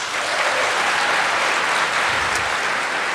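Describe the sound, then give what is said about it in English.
An audience claps steadily and loudly for a few seconds, a dense wash of many hands applauding together with no voices on top, applauding to indicate that a question about discussing James Comey with Russian diplomats on May 10th, 2017, is fake. “So, if you think the first question, which is why did you discuss James Comey with Russian diplomats on May 10th, 2017, is fake, please indicate that with applause.”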